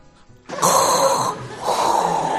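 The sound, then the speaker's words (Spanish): A voice imitates heavy, rasping respirator-mask breathing: a loud hissing inhale followed by a drawn-out exhale, mechanical and breathy, with no talking. “Me estoy escuchando la respiración y digo, macho, le paso al Darth Vader”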